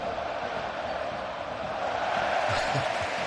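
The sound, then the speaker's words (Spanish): A Sevilla football stadium crowd mockingly applauds and cheers after player Mariano recovers a ball, in a dense, steady roar that swells a little in the second half, with no single voice standing out. “Ha recuperado un balón Mariano y la gente aplaudiendo vacionado.”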